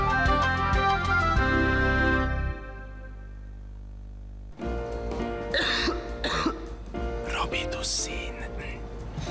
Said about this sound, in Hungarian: Köhögés sosem jön jókor, de legyen szó száraz, irritáló vagy makacs, hurutos köhögésről, a Robitussin köhögés csillapító és köptető termékei hatékonyan segítenek leküzdeni.